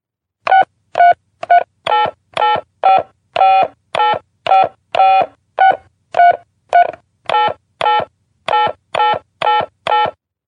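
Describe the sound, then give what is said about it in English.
A rapid series of short electronic phone keypad beeps as a debit card number and password are entered to add money to a mobile phone, about twenty tones pressed in a steady rhythm with brief gaps, loud, with no voices. “Now enter your debit card number and your password.”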